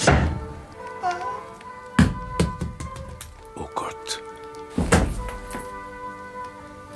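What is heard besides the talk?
door opening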